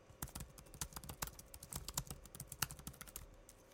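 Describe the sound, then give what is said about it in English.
Rapid, continuous typing on a 2015-model laptop keyboard, with crisp clicky key presses in an uneven stream and a few slightly louder taps, no voices. “So now let's try the 2015 model.”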